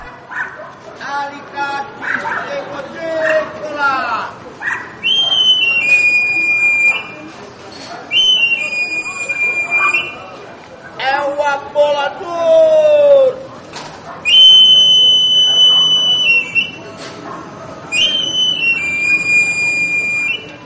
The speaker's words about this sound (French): Et là, en l'occurrence, chez ce personnage, la force tient dans le fait qu'il produit un sifflement extrêmement caractéristique.